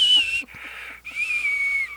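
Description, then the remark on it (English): A voice imitates a woman's high, thin whistling breath through the nose, two drawn-out wheezy tones with a short gap between them, steady in loudness. “Or I had this one lady, she sounded like there was a whistle stuck in her nose.”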